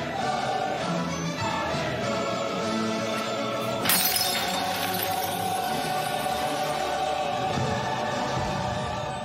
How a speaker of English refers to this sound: the headmistress of the orphanage rushes in, followed by the staff, and all of the children, too, right as Beth Harmon passes out, drops the jar, sending capsules and bits of glass scattering all across the floor.